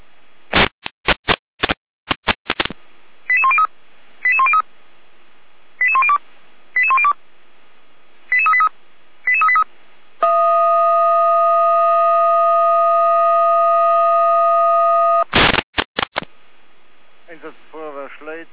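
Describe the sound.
Fire brigade control-centre radio alerting at 14:06 for FF Neustadt, called to oil spills on Knauer Hauptstraße in Knau: crackling static bursts, then pairs of short beeping tone pulses, a steady five-second siren tone, more bursts of static, and a voice starting to speak.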